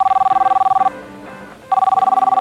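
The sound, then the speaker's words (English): A telephone rings out on an outgoing call to a third-place prize winner: two bursts of rapid, buzzing electronic trill separated by a short pause, clear and moderately loud, with faint background murmur in the gap. “So I think we need to make a phone call and get on the line somebody who's going to be our third place winner.”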